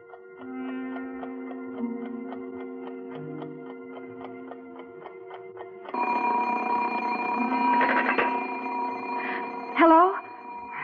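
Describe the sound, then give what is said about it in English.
An alarm clock ringing: a steady, evenly spaced ticking pattern with faint tones gives way midway to a loud, continuous metallic bell clatter that persists to the end. “It's my alarm clock.”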